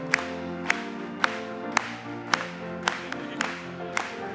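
An audience claps in praise to the Lord in a steady rhythm, about eight sharp unison claps roughly every half second, over sustained, humming musical tones.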